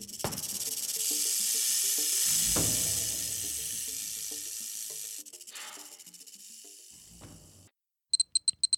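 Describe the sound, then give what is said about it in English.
A rattlesnake's steady, buzzing rattle and airy hiss run continuously for several seconds, shifting slightly in intensity, then break off before a few short, sharp bursts of rattling at the end. “The rattlesnake will hiss loudly and rattle its tail to frighten enemies.”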